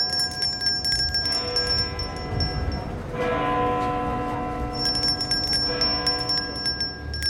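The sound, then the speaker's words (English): A large bell tolls with a deep, ringing strike that hums and lingers, sounding again a few times over a steady background wash, with no voices present. “The bell is tolling for you if you don't fund this research.”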